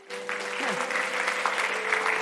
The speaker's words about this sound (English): This is Christmas. Can anyone clap for this?